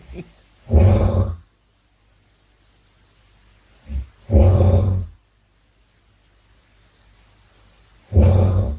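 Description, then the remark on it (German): A man snoring wildly: three loud, rasping snores spaced a few seconds apart, each a harsh low grunting rattle like a pig, with quiet breathing pauses between them and no talking. “Das hört sich, ist ein ziemlich wildes Schnarchen, aber es ist Schnarchen.”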